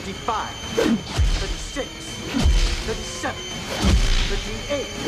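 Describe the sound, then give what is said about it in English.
Sharp whip lashes crack at a steady pace during a counted whipping, a few landing hard and loud among lighter strikes, with strained vocal cries and groans between the blows. “The whipping continues.”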